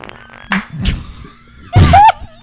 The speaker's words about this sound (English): What was that? That was a rock fucking falling down a hill.